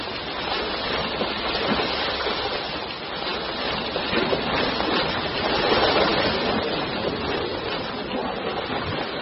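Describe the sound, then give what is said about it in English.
Rushing water of a fast-flowing mountain stream in Japan during the spring melt roars steadily, a dense continuous wash holding a fairly even loudness throughout with no voices. “There are advantages to life in the fast stream.”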